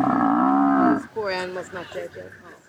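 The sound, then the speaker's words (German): A buffalo, apparently on a safari, lets out a single deep, drawn-out lowing call that lasts about a second and then breaks off as a vehicle drives up very close to it, followed by a person speaking. “Jetzt fahren die praktisch, es scheint eine Safari zu sein, jetzt fahren die da richtig nah ran. An dieses Büffeltier.”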